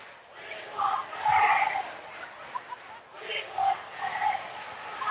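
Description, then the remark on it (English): A basketball game's student section screams and yells for player Isaias Barajas to be put back in, in a steady roar, swelling louder twice with sharper shouted cries rising above the din. “They're going to put Isaias Barajas back in as the student section was literally screaming for him.”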